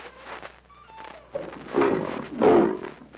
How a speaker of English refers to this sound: By the gods, Tarzan, a lion. Get back, Wong.